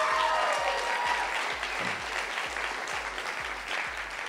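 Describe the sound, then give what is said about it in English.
A large audience applauds steadily, a dense wash of many hands clapping at once, sustained and fairly loud throughout with a rhythmic low pulse underneath. “Why don't you clap right there, like we're gonna go.”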